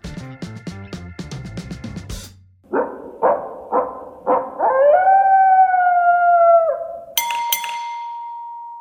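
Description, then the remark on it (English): In The Daily Ding segment of The Ding and the Athletic NBA show, a bright clinking musical intro gives way to short yips that build into a long, wavering coyote howl rising and falling, then a single clear bell ding rings out at the end. “No coyotes? No coyotes.”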